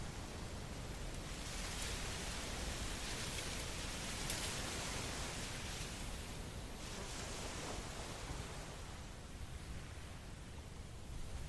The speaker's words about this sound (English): The clouds hang low. They are bringing a light mist of rain in from the sea. But the wind is not cold.